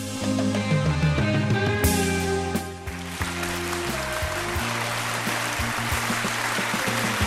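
A short musical passage gives way to a crowd's dense, steady applause dedicated to Yahweh, a wash of rapid clapping that holds at an even loudness to the end while tonal music continues beneath it.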